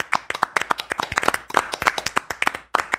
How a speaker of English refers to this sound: So how about a round of applause for Tyler, the moderator?